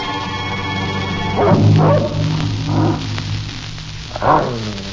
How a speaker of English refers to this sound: And working as fast as green lightning, the big dog first seized one and another of the members of the Supreme Court and tossed them so high into the air that